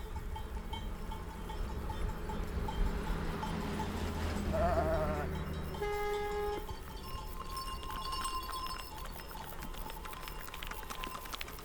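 A flock of sheep in the Basque Country, at Fontaine d'Ayushki, bleat at scattered moments, several wavering calls rising over a steady outdoor hum, with faint clinking and shuffling from the animals moving.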